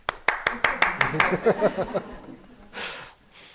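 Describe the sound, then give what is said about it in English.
Women clap their hands in a quick run of about eight sharp handclaps in a steady rhythm. A voice starts talking as the claps fade, and a short breathy burst follows near the end. “And all the ladies clap.”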